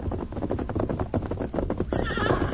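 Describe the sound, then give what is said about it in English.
A white horse, Silver, neighs loudly on a moonlit night, a shrill, quavering whinny rising at the end over a quick, rough rhythm of hooves and snorting. “He saw a blob of white in the moonlit distance. He leaped to his feet. A horse.”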